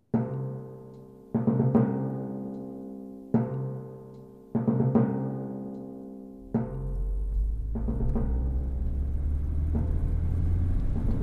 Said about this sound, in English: Maybe we should, like, stop the car.